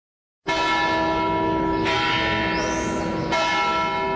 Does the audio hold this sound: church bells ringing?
yes